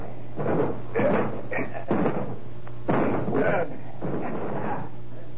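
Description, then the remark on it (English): A Scotland Yard detective and a sergeant break down an apartment door: a run of heavy, booming thuds and crashes, roughly six or seven blows at an uneven pace, loud over a steady low hum. “All right, Sergeant, we'll break the door down.”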